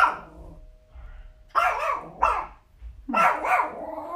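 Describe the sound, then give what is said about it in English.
A dog named Kingsley barks in several separate bursts, a lone yelp followed by three louder, harsh barks with gaps between them, plus low rumbling underneath. “The door she apparently has a lot to say in this episode. You have a lot to say, huh?”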